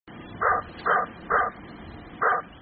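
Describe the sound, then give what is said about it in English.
A dog barks four times, three quick evenly spaced barks followed by a short pause and one more, clear over a faint background hum. “Sometimes the shopper has more than two legs.”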